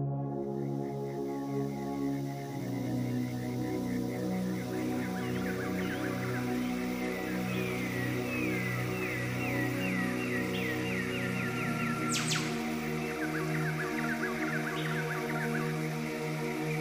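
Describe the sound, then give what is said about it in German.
Birds chirp in quick, repeated bursts throughout, steady, layered over a constant low humming drone with no voices present. “Diese Vögel waren doch gerade noch nicht da.”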